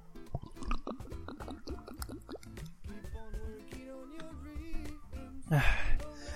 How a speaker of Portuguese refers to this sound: Só tomar água aqui de novo.